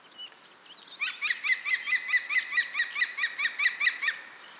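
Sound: green woodpecker laughing call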